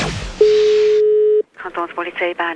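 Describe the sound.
A steady, loud telephone line tone hums unbroken for about a second, then cuts off abruptly and a man begins speaking, calling about training at a police school in the city of Bern.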